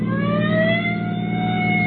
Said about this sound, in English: I'll give him the siren. Why not hold it a few seconds, Sheriff? He still might be able to pull away from us. Yeah. Siren now.